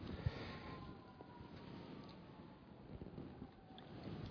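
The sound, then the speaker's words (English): Faint sirens wail steadily in the background, mostly buried under gusty wind noise and a low outdoor rumble, with no one talking. “There goes some more sirens.”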